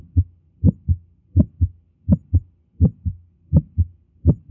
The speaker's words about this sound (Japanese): 増大した血液が大動脈や肺動脈を流れるときに起こってくるクリック音がこれです。これもやはり屈出性の雑音がちょうど1音のように聞こえています。